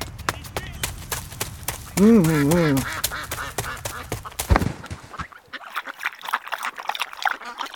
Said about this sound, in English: Throw the bread in for the ducks